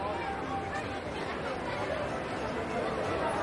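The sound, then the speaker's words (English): A steady wash of crowd chatter at the Nielsen's Bay annual Christmas tree lighting in a square with Christmas decorations, many overlapping voices blending into a continuous murmur at an even loudness throughout, with no single speaker standing out. “wanders among the crowd in Christmas decorations.”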